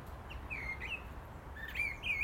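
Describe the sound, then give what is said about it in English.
A thrush chirps in short, high whistled phrases, a few bright notes early on and a longer run near the end, over a steady low rumble of background noise. “I think it's a thrush.”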